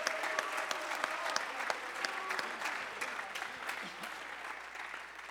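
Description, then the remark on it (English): An audience claps in praise of God, steadily for several seconds, a dense, overlapping patter of many hands at an even volume, with faint voices mixed in underneath. “Clap your hands, lift your voice, magnify God.”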